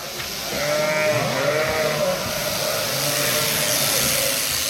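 Several sheep bleat in overlapping, wavering calls over a steady mechanical hum, the calls rising and falling across the flock with no one speaking, as a shepherd's two flocks of around 800 sheep are sheared in Baden-Württemberg, Germany, in mid-February.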